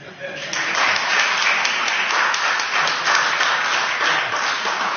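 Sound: audience clapping hands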